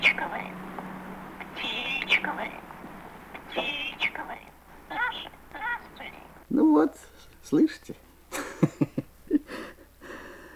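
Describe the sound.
A pet starling named Sasha chatters, mixing whispery speech-like mimicry with sharp clicks, squeaks and short chirps in an uneven, rambling stream.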